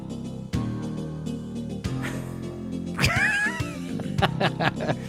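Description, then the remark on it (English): A fat cat in a video lets out a drawn-out, wavering yowl midway through, with a few shorter cries after it, heard over a steady low hum and occasional soft thumps. “I know I'm getting older when a cat video makes me laugh.”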